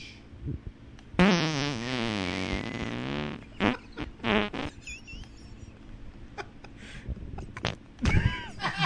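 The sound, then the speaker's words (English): A man farts loudly, drawn out for about two seconds with a wobbling, buzzy pitch, followed by a few shorter sputtering bursts and quieter rustling. “face gets progressively redder and redder as he farts, and he smiles more.”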